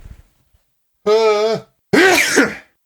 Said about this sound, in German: Ich muss niesen, das ist dumm. Heuschnupfen, Leute. Ich fühle mit euch.